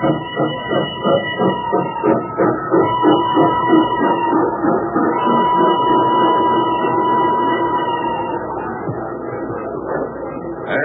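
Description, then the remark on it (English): A crowded passenger steam train in 1855, on a trip from New York to Chicago, chugs steadily along the rails, its rhythmic chuffing loud, with a sustained hiss and rumble that smooths out toward the end. “Looking all over the train for a seat.”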